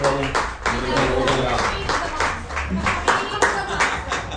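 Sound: round of applause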